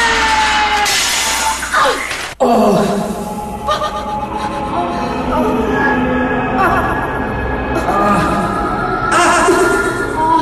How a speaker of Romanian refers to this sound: Oglinda s-a spart în mii și milioane de bucăți, însă poți să te bucuri.